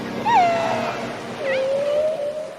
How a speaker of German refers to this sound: Wale und Delfine orientieren sich durch Schall. Sie sprechen miteinander unter Wasser oder jagen. Und das klingt einfach herrlich.